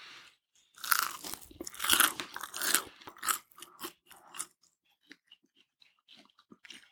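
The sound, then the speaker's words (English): Crisp crunching as someone bites into crusty focaccia bread, crunchy outside and soft in the middle, and chews, a loud burst of crackly bites in the first few seconds fading to softer, sporadic chewing and mouth sounds. “Okay, you guys, this focaccia is actually insane. It's so crunchy on the outside and soft and fluffy in the middle.”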